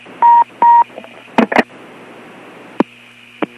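Two steady electronic telephone keypad tones sound in quick succession at the end of an answering machine message, just before the caller hangs up, followed by a few sharp clicks and crackles over a faint static hiss on the phone line.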